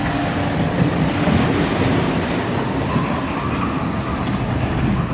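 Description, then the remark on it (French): A loud, steady rumbling rush of an amusement ride boat at Nigloland running down a water chute at the end of its 28.24-second course, a continuous churning roar with no voices and no distinct single splash. “On voit temps de chute du dernier bateau. Donc il a fait son petit parcours en 28 secondes 24.”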